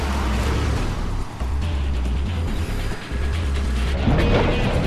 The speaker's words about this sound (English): swerves down a side alley and smashes through a pile of pallets.